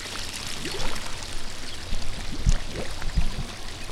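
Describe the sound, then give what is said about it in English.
Water bubbles and gurgles steadily underwater in a swimming pool while a diver fixes the pool, muffled, with rising bubbly chirps throughout and two brief low thumps near the end. No one speaks. “Blowing bubbles is what we call it in the business.”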